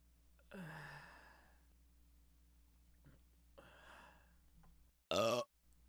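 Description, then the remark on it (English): A single short, loud burp bursts out near the end, preceded by a couple of soft, breathy exhales in an otherwise quiet setting. “Oh my God, that's so embarrassing. I haven't burped in so long.”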